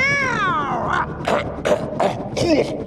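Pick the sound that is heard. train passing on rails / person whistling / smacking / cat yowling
cat yowling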